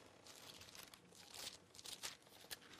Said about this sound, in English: Music to my ears. Hear the pages turning? Yeah, that's wonderful, right? Wonderful, wonderful, wonderful.